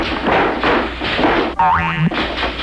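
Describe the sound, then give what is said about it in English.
A bed slat springs as someone sits on the edge of a bed in a tourist cabin at Highway Harry's Tourist Cabins, with a single loud, twangy boing whose pitch wobbles upward for about half a second, set between stretches of dull rustling and shuffling noise. “Bad slat, I guess.”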